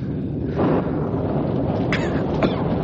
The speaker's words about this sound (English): Listen. Listen. Rain. Rain. Cool water. Cool air.